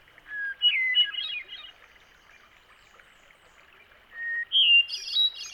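A hermit thrush sings two phrases, each opening with a pure steady whistle and breaking into a quick, tumbling jumble of higher musical notes, with a soft rushing background between songs.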